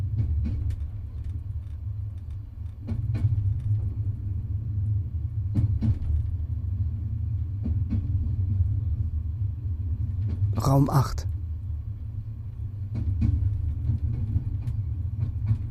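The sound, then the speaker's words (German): A steady low rumble of a TGV high-speed train running along the tracks at night from Marseille to Strasbourg, with faint rhythmic clicks and a brief sharp clatter midway; a few quiet spoken words surface over the continuous drone. “Ein Zug unterwegs. Endlich mal was Friedliches. Nachtfahrt mit dem TGV.”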